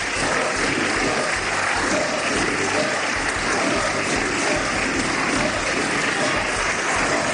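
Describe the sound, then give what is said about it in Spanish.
Sustained, dense applause fills the Valencian Parliament chamber as PP deputies applaud Mazón's speech, many hands clapping loudly and steadily for several seconds without letting up, with no clear voices standing out. “Estos están aplaudiendo.”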